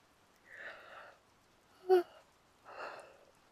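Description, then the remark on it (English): A drawn-out yawn: a long breathy inhale, a short sharp voiced squeak at its peak, then a soft airy exhale. Fairly quiet, with no talking. “You made me yawn, baby.”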